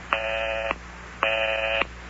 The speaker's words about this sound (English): Is that the number you're dialing there? Yeah. But I keep getting the busy signal.